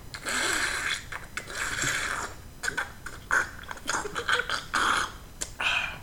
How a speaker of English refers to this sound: Excuse me while I grab my organic tea. Ooh, sip on it ever so that slightly. That tea does look very nice. Very healthy. Oh, yes. I have to make sure that I sip very loud, so that way everyone knows I'm sipping tea, like a douchebag.